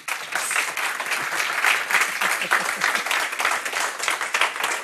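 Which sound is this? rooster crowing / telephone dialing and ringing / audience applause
audience applause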